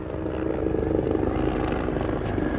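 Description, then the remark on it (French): Loud, steady thudding of the rotors of three helicopters circling around a site and landing, a continuous rhythmic chop with engine roar filling the whole scene. “Il y a trois hélicoptères qui ont tourné autour du site et qui sont en train de se poser aussitôt.”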